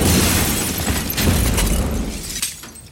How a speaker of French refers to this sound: Quelques minutes plus tard, près de la place de la Nation, comptoir Voltaire, les clients sont projetés par une explosion. L'un des trois terroristes du commando des terrasses vient de se faire exploser.